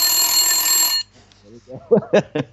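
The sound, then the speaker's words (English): An egg timer rings loudly with a continuous metallic jangle for about a second, then cuts off abruptly; a moment later a person starts speaking. “Hey, I think I said all I needed to say, but the egg timer got me.”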